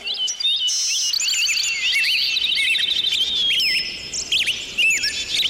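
A dense chorus of small birds chirping and twittering nonstop, many quick high-pitched calls overlapping at once, fairly loud, with no voices.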